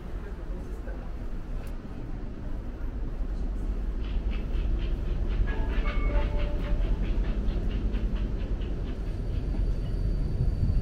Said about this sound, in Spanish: mejor aliado para dar un paseo y conocerla, al menos en parte, es el tranvía.